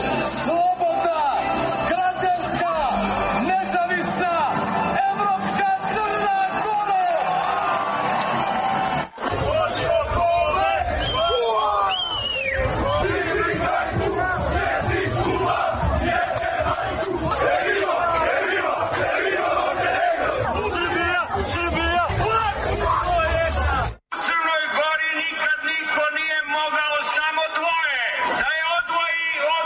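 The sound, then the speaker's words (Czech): A large crowd on Podgorica's main square in Montenegro cheers, whoops and shouts in a loud, continuous roar during a Radio Free Europe broadcast on 21 May 2006, with brief cuts between segments and chanting, sung voices rising near the end. “godine, s glavnog Podgoričkog trga prenosimo.”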